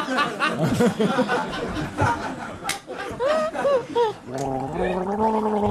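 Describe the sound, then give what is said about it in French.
Someone gargles water while trying to voice a film title, producing bubbling, warbling tones in shifting pitches, with brief snickers and chatter from others. “Au bout d'un moment, on l'avale, l'eau. C'est terrible, on peut pas la garder.”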